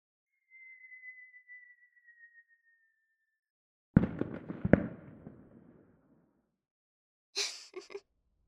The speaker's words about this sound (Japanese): 驚いた?そう、花火。前に私、あなたと一緒に見たいって言ったでしょ?だから準備しておいたの。